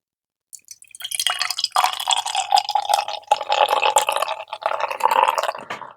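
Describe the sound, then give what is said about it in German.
Beer pours steadily into a tilted glass for several seconds, a gurgling, fizzy stream with bubbly crackle and slight rising pitch as it fills, no voices. “Ein Glas habe ich noch, Moment, ich halte es mal schräg.”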